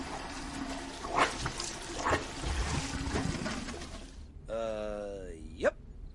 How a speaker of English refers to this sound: So now the water is sort of everywhere and it's moving into the living room.